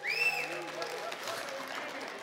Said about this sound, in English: Well, good morning on this Super Bowl Sunday. How many of you, if you're rooting for the Chiefs, clap?